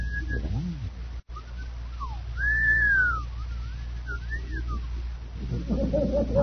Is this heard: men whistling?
yes